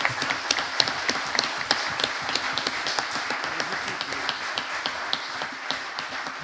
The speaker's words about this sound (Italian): Un applauso alla nuova giunta.